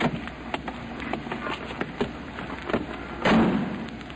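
A cab pulls up at the curb at 5th and 115th Streets as it is getting dark, and its door opens with a few sharp clicks and thumps over a steady rumble of engine and street noise, ending in a louder, rougher burst as it swings wide.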